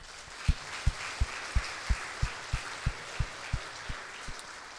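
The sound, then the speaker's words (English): An audience applauds with a dense wash of clapping, underscored by a steady, regular thumping pulse about three times a second, continuing for several seconds with no talking. “You all could applaud for that.”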